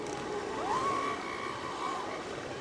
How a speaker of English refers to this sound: That's not flatulence and belching. That's lovemaking. These elephant seals have migrated all the way from the Gulf of Alaska. They come to this spot every winter to breed and to fight off other elephant seals.